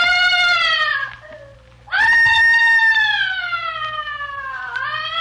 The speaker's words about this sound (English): Where is that screaming coming from?